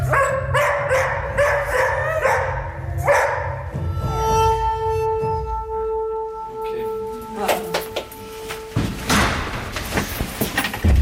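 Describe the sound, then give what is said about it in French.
A dog barks several times in quick succession, fairly loud, then lets out a drawn-out tonal whine before clattering, door-like knocks take over. “Et moi. Mon chien.”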